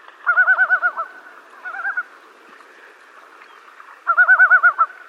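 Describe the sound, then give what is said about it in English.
A loon on a lake calls in wavering, yodel-like phrases, with two rapid warbling bursts separated by a shorter one, clear over a quiet outdoor background with no talking. “pretty much going through their whole repertoire of vocalizations, yodels, wails, and moans”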